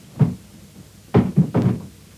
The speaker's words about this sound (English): What's he doing? Sounds to me as if he's moving furniture about. He's barricading the door.